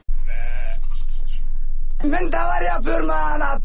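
A flock of sheep, tended by a shepherd in the high mountain valleys of the Anatolia region in eastern Turkey, bleats: one drawn-out bleat at first, then a loud chorus of several overlapping bleats, wavering and continuous until the end.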